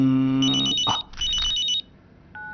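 A mobile phone rings with two bursts of warbling, pulsing electronic tones, loud and clear, followed after a pause by a short faint beep.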